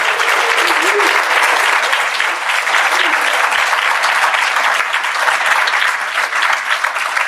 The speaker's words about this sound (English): So I think that we all just need to give the commissioner one more round of applause.